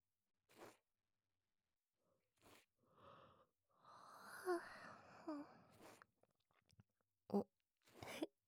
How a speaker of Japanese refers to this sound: あんたも眠くなってきた？同時にあくびが出たね。実は私もこうやって耳かきしてたら眠くなってきちゃった。